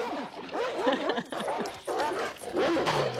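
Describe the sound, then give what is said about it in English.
Several dogs bark and yip over one another in a steady, overlapping chorus, loud, with short pauses between bursts and no talking. “Yeah, get the dogs ready again.”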